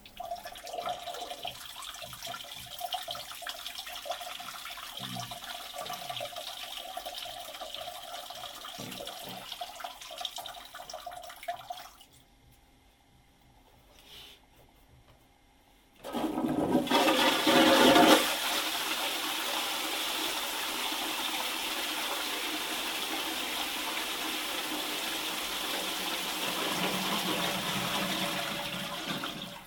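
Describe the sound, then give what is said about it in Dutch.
John Cleese urinating: a steady trickling stream runs for about twelve seconds, goes quiet briefly, then a toilet flushes with a loud, sudden rush of water that keeps roaring to the end. “maar horen we wel even hoe Cleese naar de wc wandelt en een plasje doet.”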